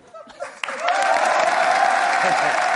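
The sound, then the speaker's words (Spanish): An audience bursts into applause as a man comes out, after a brief, quieter start, the clapping quickly swelling into a dense, steady ovation that holds loud and even until the end, with faint voices mixed in. “Claro, el público, una ovación que le dio.”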